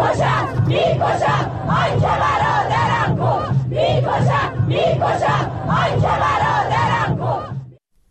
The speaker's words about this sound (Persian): و سرانجام همین که ویدیوها و تصاویر منتشر شده در شبکه‌های اجتماعی نشان می‌دهد روز پنجشنبه در مراسم تشییع پیکر 2 شهروندی که بر اثر تیراندازی نیروهای بسیج در همدان کشته شدند، شرکت کنندگان شعارهای علیه نیروهای امنیتی سر دادند.